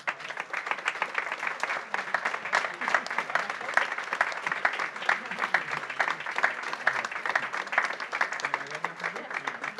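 A crowd in Roda de Barà applauds a local runner being given a recognition, many hands clapping in a dense, continuous patter that holds at an even level throughout, with no voices standing out above it.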